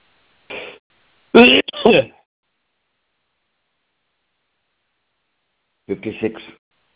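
Several short, harsh coughs from a person dictating a medical examination report: a quick one, then a tight pair, a long pause, and a final rasping burst near the end.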